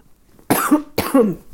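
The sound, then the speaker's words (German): Two harsh coughs in quick succession, fairly loud, each a broad rough burst with a brief pause between them and no talking. “Entschuldigung, muss, glaube ich, gleich noch mal husten.”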